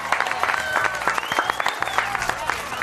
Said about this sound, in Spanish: Bueno, el aplauso que suene